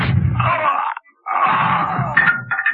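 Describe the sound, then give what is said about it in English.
A man in a shop, shot with a silenced pistol, gasps and groans in pain and falls behind the counter: two strained, breathy vocal bursts separated by a short pause, fairly loud, with no words spoken. “gasped and fell behind the counter.”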